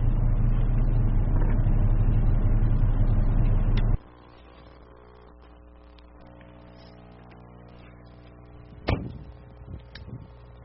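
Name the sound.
door being opened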